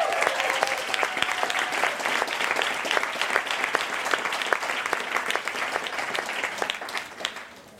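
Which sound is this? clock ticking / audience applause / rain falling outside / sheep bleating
audience applause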